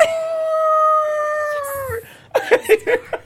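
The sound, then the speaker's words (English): A person imitates a wolf howl with one long, loud, sustained wavering tone that slides downward at the end, followed by a few short bursts of laughter or vocal sounds. “And they have me howl a lot, you know? Can we hear howl?”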